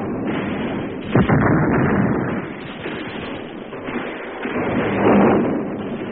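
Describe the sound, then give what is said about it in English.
A grenade thrown by a soldier into a Japanese bunker explodes as one sharp, muffled thump early on, followed by a dense, rumbling roar of battle noise that continues on a dull, low-fidelity recording. “Private Partridge threw a grenade, and in the bursting explosion, threw himself into the enemy position”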